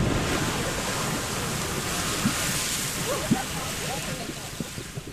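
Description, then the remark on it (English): The Lady Knox geyser in New Zealand erupts after a park guide pours detergent into it, a steady, loud roar of gushing, spraying water that stays constant throughout, with faint crowd voices murmuring underneath. “a park guide pours detergent into the Lady Knox geyser to set it off”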